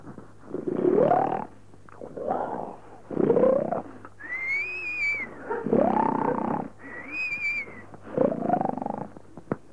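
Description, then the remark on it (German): A voice imitates loud snoring: a run of rough, rasping snores broken up twice by high, thin whistling exhales, in a steady rhythm with no talking. “Und der Patz rauchte, der Putz vielmehr, rauchte sich seine Pfeife an, setzte sich hin, machte sich eine Tasse Kaffee, hörte zu, wie sein Freund schnarchte.”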